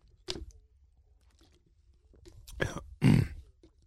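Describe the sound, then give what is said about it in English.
A few harsh coughing bursts with throat clearing from a lingering cough after a fever: one short cough, a pause, then two heavier coughs in quick succession, the last the loudest. No one speaks. “So I went to bed, and when I woke up, the fever was gone. So I was happy with that, to know, hey, no fever, fever's gone. But the cough wasn't.”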